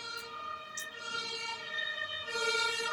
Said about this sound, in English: I think it's an ambulance, actually.